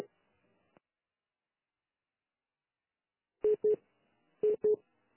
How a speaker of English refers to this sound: It sounds like a busy tone, so I'm not quite sure what that is, but we'll see.